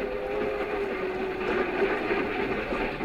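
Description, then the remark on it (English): A commuter train to the city rolls steadily along the rails, a continuous rumbling roar with a faint sustained whine running through it, unbroken throughout. “I used to ride the commuting train to my job in the city, and I got to know all the regular commuters who rode in the same smoking car.”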